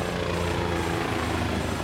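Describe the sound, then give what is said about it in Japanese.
A helicopter drones steadily, its rotor and engine noise forming a dense, continuous roar with a low rhythmic throb, constant in loudness throughout and with no voices present. “だが何かがこのヘリの中にいる。”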